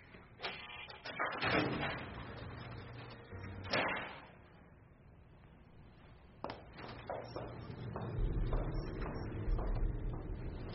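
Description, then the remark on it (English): A door is opened with a series of heavy mechanical clunks and latch clicks, followed by a steady whirring, grinding hum that builds toward the end, fairly loud with no voices. “Open the door, please.”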